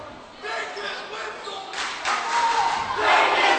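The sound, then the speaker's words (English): A large crowd at a Kane Wolves home girls basketball playoff game against the Bucks cheers and shouts steadily, with the roar swelling louder about halfway through and again near the end. Some fans traveled from the Meadowlands area. “Nice crowd here for Kane Wolves home girls playoff game.”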